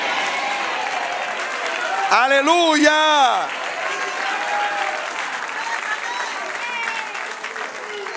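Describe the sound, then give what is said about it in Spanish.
An audience applauds steadily throughout, a dense wash of clapping, while a single voice calls out briefly over it near the middle. “Se aplaude, se destaca, se exalta, se halaga lo que se hace bien, mucho más lo que se hace perfecto.”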